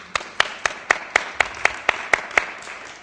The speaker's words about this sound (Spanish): Otro fuerte aplauso para ellos.